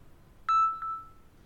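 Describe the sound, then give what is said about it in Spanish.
A pair of electronic beeps at a steady mid-high pitch, a signal tone after each spoken sentence in a Spanish listening exercise, marking a pause to repeat the sentence: a loud first tone, then a quieter second one that trails off, with no voices around them. “Bien, y a continuación te voy a dejar algunas oraciones para que las escuches, y te voy a dejar un espacio de tiempo luego de cada una, luego de escuchar la señal sonora.”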